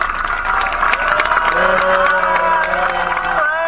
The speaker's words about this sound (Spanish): Un grito fuerte y un aplauso grande, por favor.